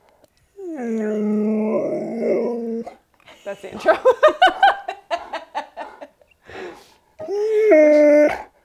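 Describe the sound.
A male dog lets out a long, wavering howl, then a shorter whimpering howl after a few seconds, loud. Between them, people laugh and someone speaks briefly.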